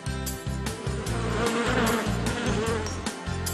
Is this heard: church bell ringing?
no